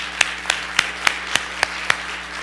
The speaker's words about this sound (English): This beautiful Minnesota day, let's applaud it, okay?